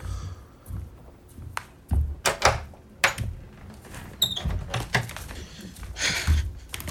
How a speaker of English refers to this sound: Someone's knocking.